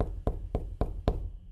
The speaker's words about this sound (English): Do you guys hear that too? Why is there knocking?